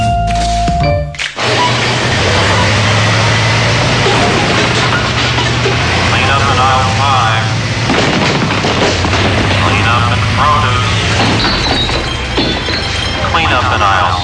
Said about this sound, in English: Ma'am, excuse me, ma'am, you can't have a forklift in the grocery store. Oh, I'm just picking up some bottled water. I love the taste, but all those bottles get heavy.